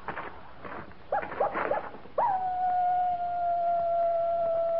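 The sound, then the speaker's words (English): A coyote calling at night gives a few short, yipping cries, then a long, steady howl that holds one high pitch until the end. It is heard alone, with no talking. “That's just a coyote.”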